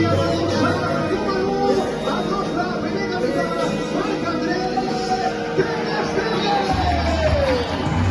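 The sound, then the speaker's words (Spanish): A loud, steady roar from a stadium crowd of 6,000 spectators greeting Ter Stegen and the Barça players as they come out of the locker room before the Barça–Como match: cheering, whistles and applause blend together, with a loud public-address voice booming under the noise throughout. “Aplausos, pitos y la megafonía bien alta, que es algo muy común cuando los clubes no saben cómo va a respirar su afición.”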